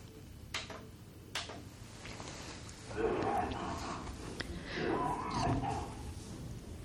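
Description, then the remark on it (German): A man coughs several times, starting with two sharp bursts, then harsher, strained hacking and gasping, heard somewhat muffled over a steady background hum. “Im Hintergrund hören wir Der Mann, der hustet, eine Arbeit, die Boltanski mit seinem Bruder durchgeführt hat”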